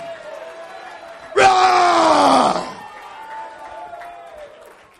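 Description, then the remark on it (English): A church audience claps and erupts in a loud, sustained collective shout lasting over a second, rising sharply and then fading back into a softer crowd murmur. “Let's clap our hands. Let's lift up a voice. Let's lift up a shout.”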